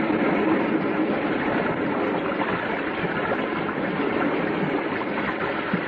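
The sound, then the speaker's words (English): A loud, steady rush of water gushes without pause from a good-sized underground spring, a dense continuous roar filling the whole stretch with no voices over it. “You just ran into the bottom of a pretty good-sized spring.”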